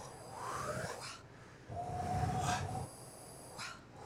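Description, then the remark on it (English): A voice makes drawn-out, breathy "wh" sounds as a breath exercise using the voiceless voice: two long airy exhalations followed by a shorter one, soft and hissy, with a faint whistling tone running through the middle breath. “So just what you're gonna first do is a sound. and elongating that. So it's kind of WH.”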